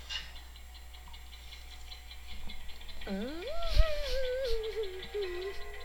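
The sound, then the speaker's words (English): A clock ticks faintly and steadily throughout, and about halfway through a louder tonal sound swoops up and wavers on top of the quiet ticking. “Wait, is the clock working now?”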